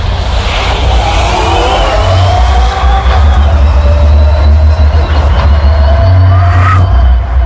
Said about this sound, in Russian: На полных оборотах, при максимальном крутящем моменте, звук огромного тягача, который должен тянуть огромную фуру.